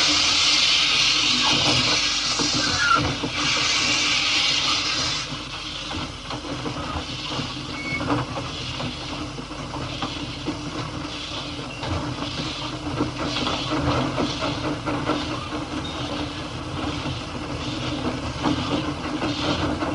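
A steam train on the Talithlin Railway sets off on the last run of the day, heading to Dolgoch: a loud hiss of escaping steam, then steady chuffing that builds into a regular rhythm, with clanking and rumbling underneath and no voices.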